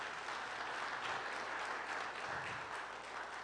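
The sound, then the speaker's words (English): A crowd claps steadily in sustained applause, a dense, even wash of many hands with no voices standing out, holding at a consistent loudness throughout. “Can y'all give him a round of applause real quick?”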